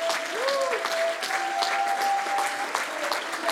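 A church audience bursts into loud, sustained applause of praise to the Lord before being seated, dense clapping filling the whole stretch, with a steady held musical tone and a brief swooping cry rising over the clapping.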